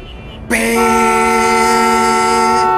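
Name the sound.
car horn honking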